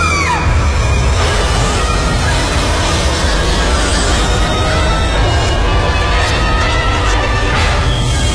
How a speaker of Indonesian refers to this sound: Sampai ada teriakan kencang di dekatku.